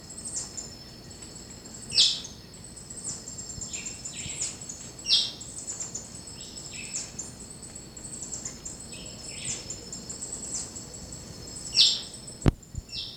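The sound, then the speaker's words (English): A white-chinned thrush, the hopping dick, gives three harsh, sharp chirps spaced several seconds apart from a dense vine-covered thicket in Charlie Bottom, heard over a steady high insect drone with quieter bird notes scattered in the background. “And that's the hopping dick, white chin thrush. The harsh chirp.”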